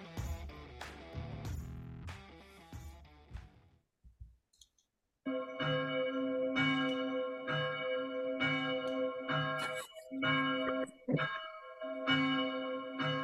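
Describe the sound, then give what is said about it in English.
A bell tolls repeatedly in a ten-bell salute for Lily Savage (Paul O'Grady): a quick, dense cluster of strikes, a brief pause, then steady, evenly spaced loud tolls whose ringing tones overlap. No one speaks. “Grado's going to get a 10-bell salute for Lily Savage.”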